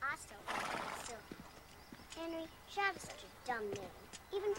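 Horses whinny several times in close succession, high wavering neighs rising and falling, with hooves clip-clopping and shuffling underneath, fairly loud, as the horses are saddled in the morning.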